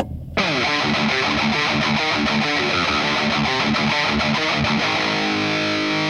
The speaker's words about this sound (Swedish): Eller mer dist, att det blir jättehårt ljud. Eller olika. Det finns hur mycket som helst.